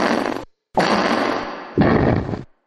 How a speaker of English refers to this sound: The Weekly Breeze is a podcast of just gas. It's a fart four different ways.